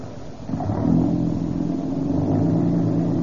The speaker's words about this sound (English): This old car's got a lot of pep. Hey, it's a different car since we've been using that Rio Grande crack gasoline.